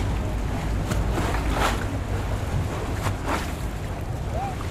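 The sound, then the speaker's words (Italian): Sea water sloshing and washing, with a couple of louder wave surges breaking through a steady rush of wind and low rumbling noise. “Le bruit que je n'oublie pas est celui de l'eau.”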